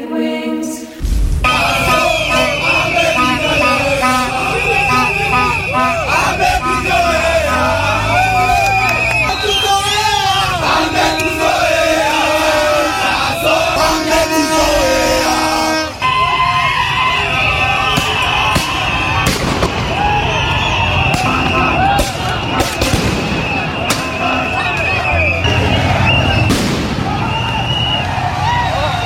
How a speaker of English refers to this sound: Those are the sounds of protesters running away from the crowd after the police started tear gassing and shooting them with rubber bullets.